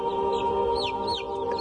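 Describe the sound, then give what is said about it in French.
A rooster in an enclosure with grains clucks in a quick series of short, high, downward-sliding calls, moderately loud, over a steady humming tonal background with no talking. “Le coq n'a pas mangé les grains, il est ressorti.”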